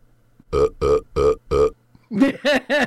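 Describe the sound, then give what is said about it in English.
A rapid run of loud burps: four evenly spaced belches in a steady rhythm, a brief pause, then three more in a rougher, higher-pitched string. No one speaks. “I didn't think you could burp like in succession like that.”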